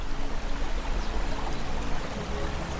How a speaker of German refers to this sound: Das monotone Plätschern des Brunnens lässt dich entspannt in deine Gedankenwelt sinken, während du dir das geschäftige Treiben am antiken Marktplatz um dich herum vorstellen kannst.